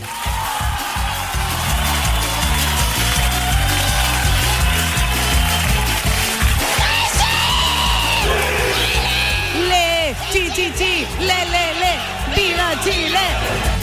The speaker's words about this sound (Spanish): Pucha, ratoncito, estábamos tan animados gritando ahí, cantando ¡Viva Chile, pues!